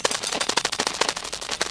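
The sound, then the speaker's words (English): Recorded brain activity of a sleeping cat, played as sound from a cassette in a tape deck by a lecturer in class: a rapid, irregular stream of sharp crackling pops and clicks, almost like gunfire or static bursts, with no talking. “This, the professor announced, is the sound of a cat's brain while asleep.”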